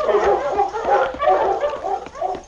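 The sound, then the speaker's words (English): A pack of sled dogs, Sergeant Preston's team led by King, barks and yips excitedly as the team sets off on the trail out of Dawson, with overlapping barks repeating rapidly and fairly loud for a couple of seconds, no voices. “As Sergeant Preston's dogs covered the well-traveled trail out of Dawson, neither the Mountie nor Bob Kelly had any way of knowing that this was the route Blackie and Craig had chosen.”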